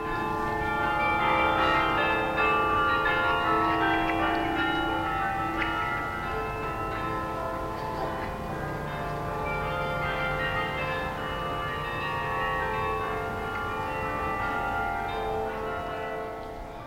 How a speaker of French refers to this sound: Quand on est seul, on peut écouter les bruits d'une ville. On découvre ses passages piétons. Ces sirènes de police. Les cloches de ces églises.